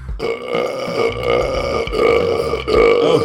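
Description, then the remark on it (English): A loud, prolonged belch rumbles on for several seconds without a break, raspy, swelling in strength near the end. “Oh, it was a flaming hot belch,”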